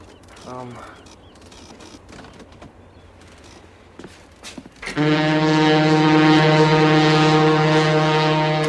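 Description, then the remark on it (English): A ship's large engines rumble to life after a few seconds of quiet background clatter, settling into a loud, steady, deep harmonic drone that continues to the end. “How about we start up the engines and come around 180 degrees?”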